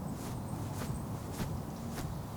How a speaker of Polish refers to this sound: Naprawdę macham. Bardziej słychać szelest mojej kurtki. Bezszelestne pióra.